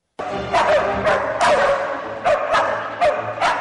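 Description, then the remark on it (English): Several live, trained dogs bark on cue in short, sharp bursts, about seven times at irregular intervals, over loud, sustained orchestral music from a Danish chamber orchestra performing a symphony that plays throughout. “Some orchestras use recordings of barking dogs for the piece, but here, live pooches rhapsodize right on cue.”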